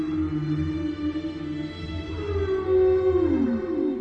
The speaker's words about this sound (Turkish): en büyük deniz canlısı olan balinaların bu sesi çıkartabilen tek canlı oldukları sanılmaktaydı.